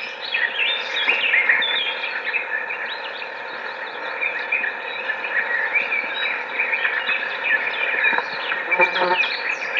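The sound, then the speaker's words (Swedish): A steady, dense chorus of thin, wheezy begging calls from blackbird nestlings runs unbroken for the whole stretch, moderately loud, with no voices. “Vindljudet är koltrastungar.”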